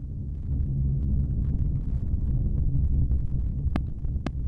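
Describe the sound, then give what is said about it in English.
Sonified solar data, 40 years' worth, presented as the heartbeat of the sun, plays as a deep, continuous rumbling drone, dense low-frequency noise like a ventilation shaft, with two sharp clicks near the end. No one speaks. “And this is the heartbeat of the sun.”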